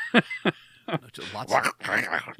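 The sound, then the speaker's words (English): Three short, rough throat-clearing rasps, followed by a stretch of guttural, speech-like vocalizing at a similar volume. “I have to clear my throat in order to say some.”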